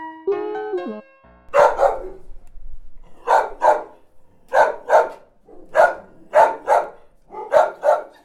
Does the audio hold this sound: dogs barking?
yes